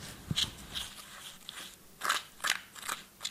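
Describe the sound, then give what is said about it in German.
In a demonstration, a spatula stirs water into a powder for about 60 seconds, scraping through the thick mix with irregular gritty, crunchy strokes that come in short bursts with brief pauses, moderately loud with no talking. “er hat eben Wasser an das Pulver da und hat angefangen mit einem Spachtel umrühren.”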